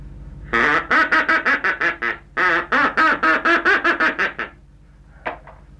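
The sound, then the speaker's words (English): A duck call blown in two long runs of rapid, loud quacks, each burst descending slightly, followed by a single short quack after a pause. Clear with no talking. “Duck call?”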